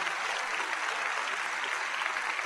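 Steady, dense applause from an audience in New York for a couple, a continuous patter of many hands clapping at an even loudness throughout, with no voices rising above it.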